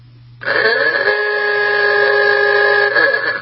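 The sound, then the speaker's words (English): A loud, buzzy ooga horn blares in one long sustained honk, its rich harmonic tone sliding up at the start and then holding steady for about three seconds over a faint low hum. “It's in the Ugahorn email time.”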